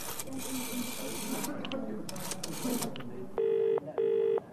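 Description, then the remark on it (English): Scratchy, clicking noises as a phone number is dialed at a hotel, followed by two loud, steady ringing tones, one after the other with a brief pause between. “I dialed the number.”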